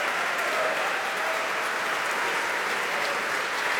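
An audience at Wigmore Hall in London applauds steadily after a live Radio 3 lunchtime recital ending with Chopin, a dense, even wash of clapping with a few cheers rising through it, holding at a constant loudness with no speech.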